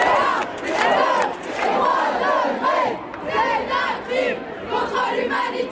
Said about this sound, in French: Les jeunes en grève pour le climat, la jeunesse mobilisée à travers le monde, des sons de France 24, d'AFP, de Reuters, c'était durant l'année 2019